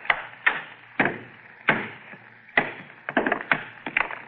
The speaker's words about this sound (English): All I'm going to do is try and break it along this fissure. Get a hammer, girl. Here. Wonder if the stone will break. Almost solid metal. I'll try.